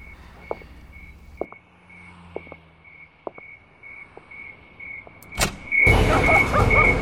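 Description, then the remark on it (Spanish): Scattered soft clicks over a faint steady chirping, then a sharp latch-like knock and a front door swinging open before 6 in the morning, letting in a louder wash of outside noise; no one speaks. “Yo voy a abrir la puerta, mamita.”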